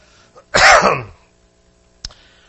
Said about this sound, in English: If I'm not, now, your sympathy cough, thank you very much. I appreciate that.